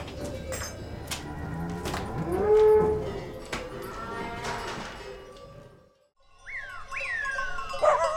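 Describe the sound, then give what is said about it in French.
Cows low repeatedly in a farm stable, deep drawn-out moos overlapping one another, followed by a brief quiet and then higher, rising calls from other animals. “Dans cette étable, normalement, on rentrait les vaches, les mules et les brebis.”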